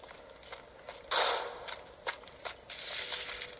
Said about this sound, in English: Uh-oh. Somebody's coming to the dungeon to open up the dungeon door.